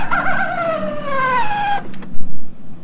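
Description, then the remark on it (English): A toy sounds a recorded coyote call: one long, wavering howl that slides steadily downward in pitch for nearly two seconds, then cuts off, leaving a few soft thumps and low rumble. “The coyote goes.”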